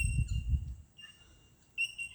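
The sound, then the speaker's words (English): Clear, sustained high-pitched tones ring out like a wind chime, presumably birds calling from high up in trees near Chura Beach at midday, coming from two or three spots a few trees apart, with a soft low rumble underneath and a brighter note returning near the end. “Presumably it's birds, because it's coming from high up in trees. We can't see anything. But it sounds like a wind chime, but it can't be, because there's like two lots coming from few trees apart.”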